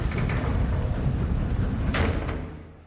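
A heavy metal cell block door rumbles as it slides along its track, ending in a sharp clanking bang as it shuts, then the sound fades into a low echoing hum.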